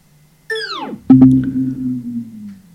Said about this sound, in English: I'm going to turn the Beats Pill Plus off.